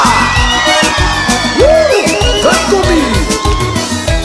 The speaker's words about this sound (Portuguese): E a galera de Minas Gerais solta o grito, aê!